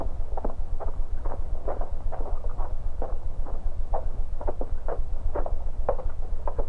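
Hooves of a rider's horse clip-clop at a steady walking pace as the horseman reins up in the darkness near a lone railway caboose on a temporary spur: a regular series of hollow knocks over a low, constant rumble, moderately loud and close, with no voices.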